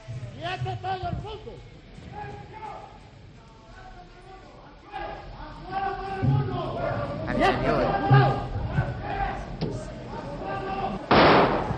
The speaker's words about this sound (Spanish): Hay los disparos. Bueno, eran las 6:30 de la tarde de un 23 de febrero de 1981.